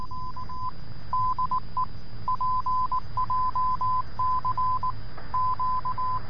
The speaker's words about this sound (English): Traditional Morse code sounds a lot like this.